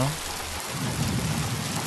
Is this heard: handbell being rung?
no